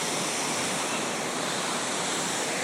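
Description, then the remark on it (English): A big waterfall roars in a steady, dense wash of white noise that stays level and loud throughout, with no voices or other sounds breaking through. “Oh, more waterfalls coming up.”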